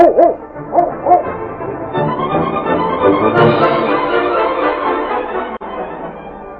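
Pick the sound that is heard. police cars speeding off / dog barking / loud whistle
dog barking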